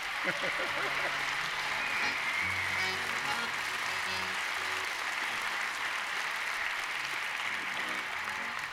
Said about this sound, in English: First thing I want everybody to do is give the whole Augusta staff a big round of applause for all the hard work they've been doing.